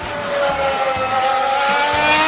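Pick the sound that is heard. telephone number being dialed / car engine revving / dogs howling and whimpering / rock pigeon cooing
car engine revving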